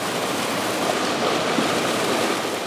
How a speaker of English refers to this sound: At this one, stinky dark water flows through a channel, gets separated from dark black sludge, and comes out the other end clean and smelling good.